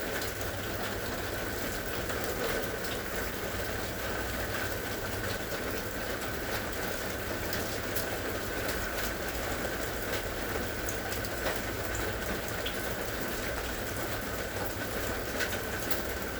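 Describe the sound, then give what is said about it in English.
Steady rain patters down on trees, a fence and the ground in a continuous, even hiss with scattered drops tapping, a moderate, unbroken shower that is slowing and lighter than before, with no voices. “Noticing how the rain is slowing down. It's not as heavy as when we first started.”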